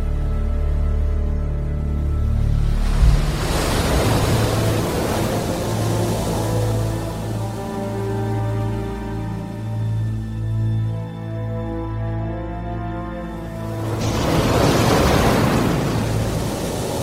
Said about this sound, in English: In winter, the temperate seas are lashed by violent storms.